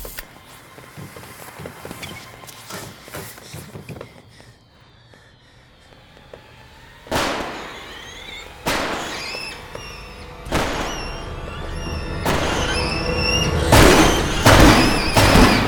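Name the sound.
firecrackers going off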